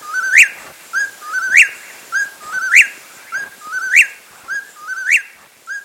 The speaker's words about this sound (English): A desert-loving California quail crows in the forested mountains of West Virginia as frontiersmen watch warily for Indians.